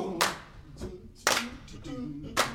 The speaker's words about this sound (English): Come on, clap your hands.